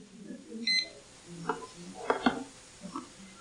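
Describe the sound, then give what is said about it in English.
A handful of short electronic beeps and button chirps as a timer is started, spaced irregularly over a few seconds. Quiet, over faint background murmur. “I better start my timer or I will be going over time.”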